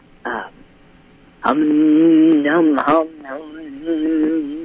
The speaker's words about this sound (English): Well, the hum. I'll just start with the hum. Okay. And we just love the hum. The body loves the hum. Anybody can hum.